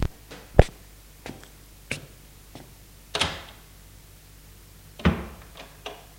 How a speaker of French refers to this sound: Ils sortent de voiture, elle a ouvert la porte de sa villa.